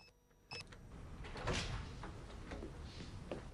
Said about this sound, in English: Frost is at the door of a lab. He keys in an entry code.